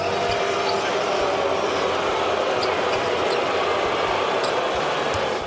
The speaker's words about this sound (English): Yeah, they were booing.